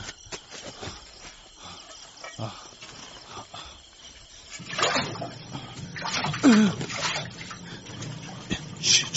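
Fresh water drawn up from a well in a courtyard: after a quiet stretch of faint shuffling, sloshing and pouring water grows louder and splashes unevenly through the second half.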